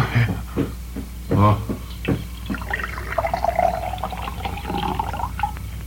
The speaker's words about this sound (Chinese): 水，我要喝水。 好，我来倒水啊。